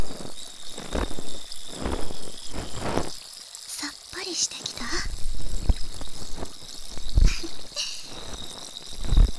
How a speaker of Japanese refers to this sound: 炭酸綿棒でお掃除をするとこびりついた汚れもきれいに取れるのですっきりしますよね。